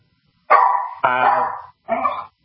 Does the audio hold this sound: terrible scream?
no